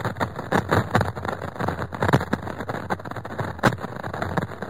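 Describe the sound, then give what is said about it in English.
A radio recording of a lightning storm on Saturn, made by the Cassini spacecraft: steady hissing static broken by irregular sharp crackles and pops, some louder bursts standing out, with no voices. “So can lightning storms on Saturn sound even more menacing than this?”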